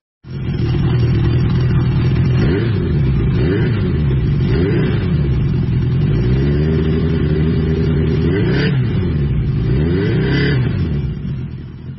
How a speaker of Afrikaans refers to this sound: hy wil gou 'n rit vat op hierdie 1980 CB750 en ons gaan met 'n rit op die bikes